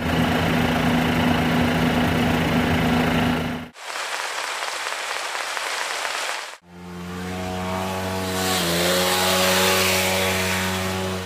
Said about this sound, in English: Between the traffic and the hedge trimmer was finely crafted noise put together by …